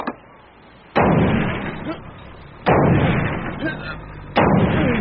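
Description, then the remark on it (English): A sledgehammer pounds an armor-plated metal door: three heavy, booming blows about two seconds apart, each striking hard and then ringing out in a long, rumbling decay. “Sounds like a sledgehammer. A sledgehammer? That door's armor plated.”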